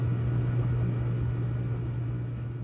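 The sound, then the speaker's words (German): An air conditioner hums steadily, a low droning tone over a soft, even wash of mechanical noise that fades slightly toward the end. No one speaks. “Bis nur noch das Summen der Klimaanlage bleibt und der Geruch von Veilchen, der sich langsam im Terpentin verliert.”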